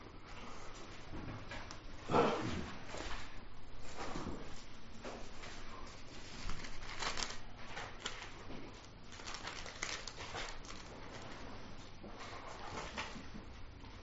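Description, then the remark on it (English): Thin Bible paper pages rustle and crinkle in dry Colorado weather, with repeated soft, crisp flutters and small taps scattered unevenly through the stretch as pages are turned one after another. “This dry Colorado weather, it's hard for me to turn pages and just with this thin Bible unless paper.”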